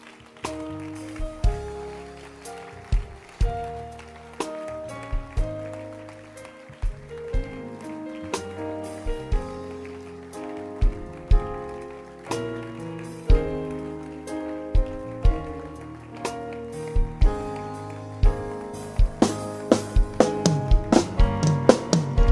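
An audience in a church claps in a steady rhythm over sustained keyboard-like music, the sharp claps growing denser and louder toward the end.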